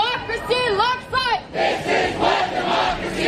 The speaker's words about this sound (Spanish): La primera, multitudinarias protestas contra el autoritarismo de Donald Trump al grito de Sin Reyes, identificándole con un monarca. Miles de estadounidenses tomaron las calles en decenas de ciudades, mientras en Washington, la capital.